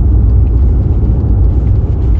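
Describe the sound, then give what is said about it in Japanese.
A V8 car engine rumbles loudly and steadily, a deep, throaty low drone with a slight pulsing texture that holds even throughout, with no voices present. “まあ、これがこの 面白い、 そう、全部撮りの V8 なんですね。振動良くて排気もいい。”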